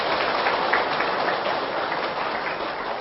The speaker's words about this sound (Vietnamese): Và nếu đó là điều mà chúng ta cùng có thể làm được, hãy dành một tràng vỗ tay để phát nguyện.